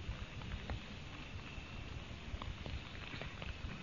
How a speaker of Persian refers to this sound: خب باران زیاد شد، من باید کوتاه بکنم یه مقداری، شعرها رو نخونم.